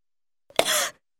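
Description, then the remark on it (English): A single short cough, a sharp, harsh burst of breathy noise that cuts off after a fraction of a second, heard on its own with silence around it and no talking. “A cough.”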